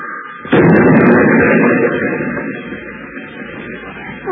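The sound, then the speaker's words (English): A car with failed brakes, rolling down a hill and up onto the sidewalk, smashes into a wooden fence with a sudden loud crash, followed by several seconds of rattling, splintering clatter and rumble that slowly fades. “Good thing I picked out our friend's fence.”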